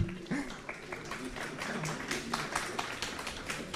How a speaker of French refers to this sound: Vous pouvez applaudir la bouteille. Hein. Allez-y, applaudissez.